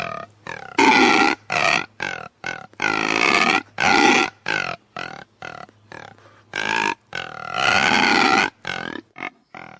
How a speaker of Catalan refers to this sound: Per començar la nova secció, les tortugues us presenta dues espècies de la fauna de la nostra comarca, el porc senglar i l'esquirol. Escolteu amb molta atenció. Fauna d'Aiguamúrcia, el porc senglar.